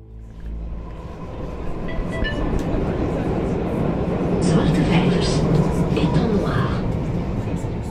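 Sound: metro train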